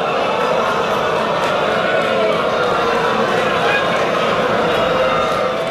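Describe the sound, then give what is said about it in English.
A large audience boos loudly and without a break for about 14 seconds, a dense, sustained roar of many voices with no clear pauses or single speaker standing out. “14 seconds of booing.”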